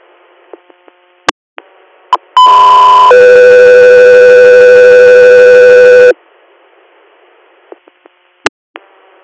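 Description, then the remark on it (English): A loud, steady two-part dispatch alert tone: a high pitch held for under a second, then a lower sustained tone for about three seconds, framed by brief radio clicks and static. “Go 3 years, stand by for tones.”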